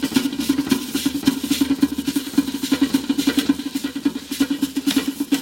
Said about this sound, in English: It's actually a pot of water that's warming up on a wood stove. The stovetop is so warped that the pot is shaking